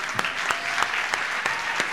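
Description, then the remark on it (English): An audience in Santa Cruz applauds for independent bookstores: a dense, steady wash of clapping at moderate volume, with a few sharper individual claps popping out at regular intervals and no voices over it. “Yeah, let's hear it for the independent bookstores.”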